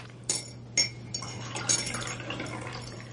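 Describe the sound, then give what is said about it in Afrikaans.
Several light ceramic clinks of cups ring out over a soft, steady trickle of coffee being poured, with a low hum underneath; the sounds are moderately quiet, and no one speaks. “Wil je koffie? Geloof my koffie is lekkerder als jou. Nou kom, laat ons proe. Die water is nog lekker warm.”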